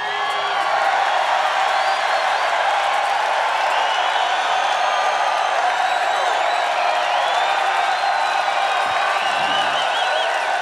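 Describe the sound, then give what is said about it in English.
A large live audience in Seattle cheers and applauds a band continuously, a dense wash of clapping, shouts and whoops that stays loud and steady throughout, with no pauses. “If you call this a Seattle crowd, this has to be one of the better Seattle crowds.”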